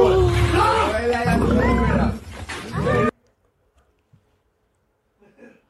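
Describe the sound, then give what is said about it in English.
A loud, rumbling roar from a lion being touched by a man through a fence blares for about three seconds with voices mixed in, then cuts off abruptly into near silence. “If you're listening, a man was toying with a lion. On the other side of a fence. He was touching the lion through the fence.”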